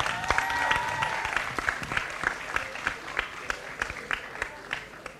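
A group applauds steadily for about five seconds, a dense wash of clapping with a few sharper individual claps popping out, and a faint tonal whoop or whistle near the start.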